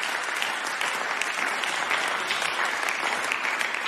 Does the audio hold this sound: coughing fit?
no